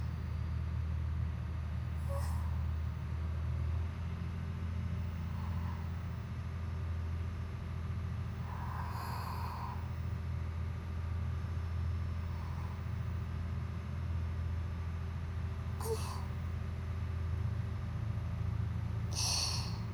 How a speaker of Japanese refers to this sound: 船室内でもこれほど豊かに響いてくるディーゼルエンジンの音も、スイカには大変に心地よいものと響きます。